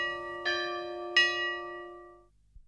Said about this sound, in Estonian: Kõlanud on saate keset küla signatuur, mis kutsub oma kelladega kuulama alanud saadet.